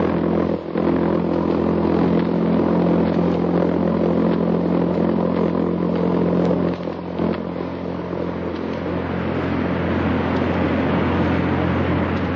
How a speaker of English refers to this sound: In Europe, that sound means death and destruction. It's the sound made by the jet-propelled buzz bomb, Hitler's weapon of vengeance. Let's listen to it ourselves for a few seconds.